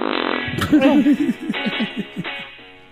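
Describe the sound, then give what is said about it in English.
A long, sputtering fart made of rapid, pitched pulses that wobble and trail off over a couple of seconds. It's loud, with no talking over it. “I hear all your farts.”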